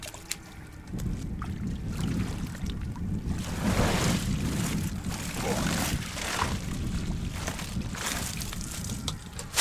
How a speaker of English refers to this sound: heaves one of the floating bags up out of the water. It weighs maybe 35 pounds. The mesh bag is full of oysters, gray, brown, drab green.